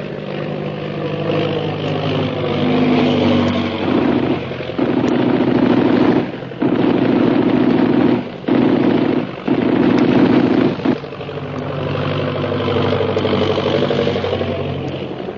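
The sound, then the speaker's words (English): A steady propeller-engine drone runs throughout, broken in the middle by four loud, rough bursts of rapid machine-gun fire aimed at shooting down an airplane, with short pauses between them, then the engine hum carries on alone. “Little shooting that plane down.”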